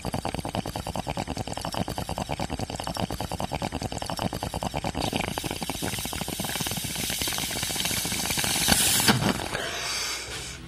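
A long bong rip: rapid, steady water bubbling that builds in loudness for about nine seconds, then ends in a sharp, airy rush before trailing off. No one speaks.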